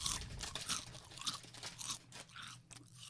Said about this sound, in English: Guess what flavour crisps they are from the crunch.